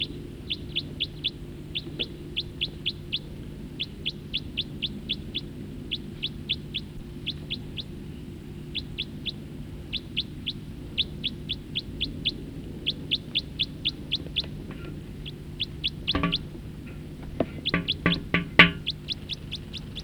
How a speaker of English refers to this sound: Now that bird flew to a different perch. Song flight of the bird that was calling. I think this was the guy that was singing. Up. He took off, along with another one.